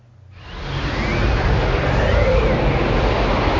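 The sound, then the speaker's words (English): A windy tumbleweed sound effect: a loud, steady rush of blowing wind that swells in within the first half second and holds, with faint whistling tones, and no voices. “Now, we were talking earlier on, weren't we, trying to find an appropriate tumbleweed sound effect”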